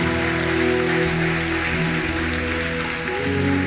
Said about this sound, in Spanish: Denle un aplauso a Dios.